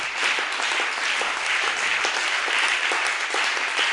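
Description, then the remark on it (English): A crowd gives God a hand clap in praise: steady, dense applause, loud and continuous for the whole stretch, with no voices rising above it. “God a hand clap.”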